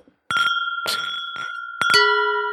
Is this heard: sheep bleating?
no